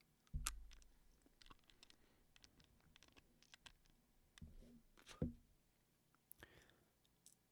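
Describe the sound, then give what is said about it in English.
A single small hard four-sided D4 die clicking and rattling against teeth as it is rolled around in a mouth, a wet, mouthy clatter. A sharp clack opens it, scattered ticks follow, then another loud knock and a spitting release as it is spat out. No one speaks. “Content warning for this upcoming section, I will be putting dice in my mouth and rolling them around and spitting them out, so you will be hearing that.”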